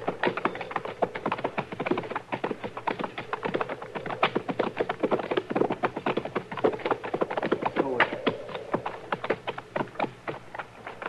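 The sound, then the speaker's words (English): Steady, fast clip-clop of hooves of horses being ridden on hard ground, a dense run of sharp taps at a tight, even pace, continuing for the whole stretch with no voices. “All right, we'll ride up to them and look it over from there.”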